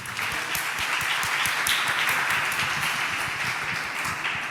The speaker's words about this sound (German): Ein Applaus für das VOG, die sind auch gekommen.